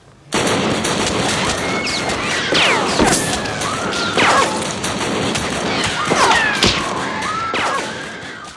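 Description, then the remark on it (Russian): Sustained, chaotic gunfire with many overlapping shots cracking loud for several seconds, like a rapid pistol volley, with whistling, ricochet-like sweeps between the blasts; an execution shooting inside the Ipatiev House, bullets ricocheting off a wooden wall. “Пальба длилась очень долго, и несмотря на мои надежды, что деревянная стена не даст рикошета, пули от нее отскакивали”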